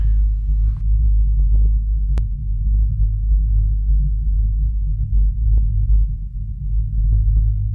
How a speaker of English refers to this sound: And they placed a seismometer at the base of Castleton Tower, employed two climbers that placed another seismometer at the top, and what they heard was a heartbeat that registers in tandem with our own.